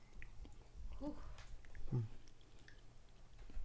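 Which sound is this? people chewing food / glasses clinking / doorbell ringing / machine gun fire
people chewing food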